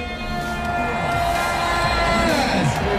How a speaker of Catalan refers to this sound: Això era un crit, eh? Això era un crit que deia Marc Márquez.